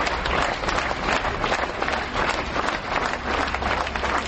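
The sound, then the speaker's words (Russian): Sustained applause from a large crowd of mourners seeing off ballerina Yekaterina Maximova from the Atrium building next to the Bolshoi Theatre in Moscow, as is customary among theatre people: a dense steady wash of many hands clapping at once, loud and continuous with no voices standing out. “Провожали, как принято у театральных людей, аплодисментами.”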